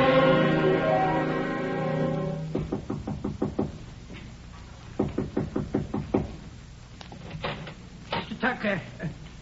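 Knocking on a door in three bursts of quick, sharp raps separated by short pauses, following a sustained, humming tone at the start. The knocks are firm and clearly audible.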